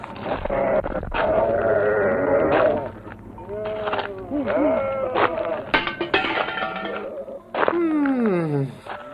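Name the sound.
sheep bleating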